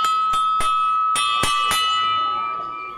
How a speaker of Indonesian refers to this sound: Itu, bel sudah berbunyi. Mas Danu harus masuk kelas.